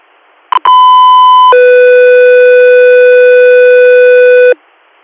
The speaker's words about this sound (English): Get through here, standby for tones.